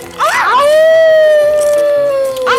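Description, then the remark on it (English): A person lets out a single loud, drawn-out wolf-like howl that rises sharply, then holds a long steady note before tapering off, with a brief vocal sound at the very end. “You know, seeing you do this makes me want to jump on a table and howl like a wolf.”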